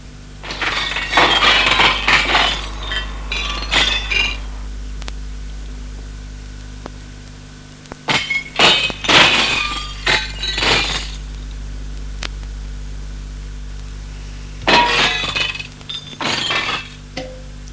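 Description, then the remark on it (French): The glass of a locked display case shattering in three separate bursts, broken with a pen-like laser device, each a loud crackling spray of tinkling fragments lasting a few seconds, over a steady low hum with short quiet gaps between. “Alors Laurent sort de sa poche une chose qui ressemble à un stylo et qui a un rayon laser qui lui permet de briser la vitre.”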